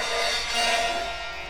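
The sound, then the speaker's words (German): The door of a bell tower creaks open at 2 a.m. with a drawn-out, high-pitched squeal, steady and fairly loud for over a second, with no voices. “Die quietschende Tür geht auf.”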